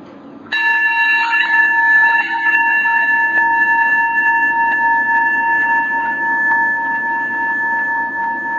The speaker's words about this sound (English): So the chime that you'll hear is the invitation to move your gaze from the outer world to the inner world.